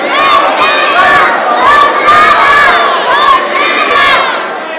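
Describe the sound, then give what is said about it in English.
A crowd of about two hundred people shouting together at full volume after a countdown, a dense, sustained roar of many voices that stays loud for the whole five seconds. “That was 200 people shouting.”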